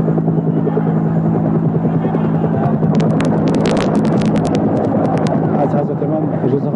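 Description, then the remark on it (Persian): A helicopter's rotor drones loudly and steadily throughout, a low throbbing hum over a noisy crowd, with bursts of sharp clatter partway through; the helicopter, at Behesht-e Zahra for Imam Khomeini's arrival, slowly vanishes from sight among the crowd. “و ما خودمون هم که ذوق زده شده بودیم، دیدیم که دیگه یواش یواش هلیکوپتر داره در بین جمعیت از دیده‌ها محو میشه و گم میشه.”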